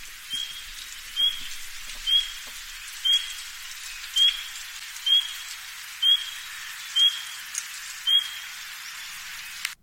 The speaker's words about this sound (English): So up next we have the spring peeper frog. Yes, another common friend of the spring.